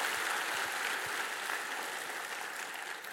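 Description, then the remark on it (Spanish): A crowd claps steadily for a few seconds in praise of the Lord, a dense, even wash of many hands applauding together with no voices standing out. “Alaba al Señor con un aplauso, porque sabemos, Satanás, quiénes somos en Cristo Jesús.”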